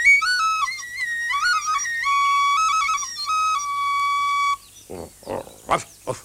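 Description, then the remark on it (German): A nightingale named Pitti whistles and trills a bright, melodic run of gliding, warbling notes that settles into a long held tone, followed by a few short chirpy vocal bursts. “Er ist eine Nachtigall, siehste.”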